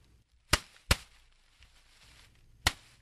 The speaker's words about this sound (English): Or this sound effect, which happens in the Rougarou murders, the sound of workers clearing out brush.